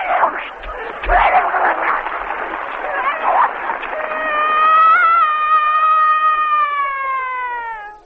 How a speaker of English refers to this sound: A dog serenade.